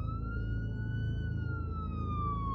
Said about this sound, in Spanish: A lo lejos, se oyó una sirena de policía.